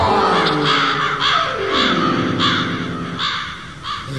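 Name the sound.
crows cawing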